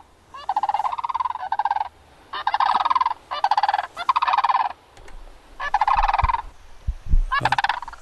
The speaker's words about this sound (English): Our guest, Ann Lacey, knows what that bird song is. It's the sandhill crane.